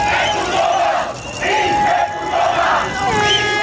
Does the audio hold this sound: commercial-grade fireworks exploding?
no